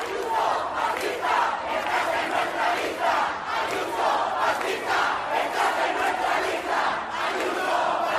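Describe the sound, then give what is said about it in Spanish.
A large crowd of protesters at a street demonstration in Madrid, condemning the murder of Samuel in La Coruña, chants in unison, loud and steady, with rhythmic surges of many voices shouting together over a continuous roar of noise throughout. “Ya se vio ayer en Madrid la manifestación para condenar la muerte, el asesinato de Samuel en La Coruña. El grito era, escúchelo, escúchelo.”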